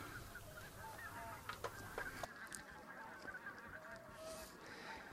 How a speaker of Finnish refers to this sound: Niin, jos puhutaan siitä iltahämyssä määrättyä reittiä lentävästä linnusta, niin kyllä se kuovikin voi olla, mutta kyllä mä melkein kallistun lehtokurpan puoleen